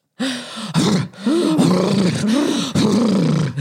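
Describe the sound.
A person imitates a horse snorting: loud, rough, breathy blowing with a wavering voiced tone running through it, broken by two short gaps over a few seconds.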